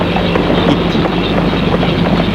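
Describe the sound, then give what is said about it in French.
A strong storm wind roars steadily and loudly throughout, a dense rushing noise with a deep rumbling low end and faint gusting texture, with no voices. “L'orage est très fort.”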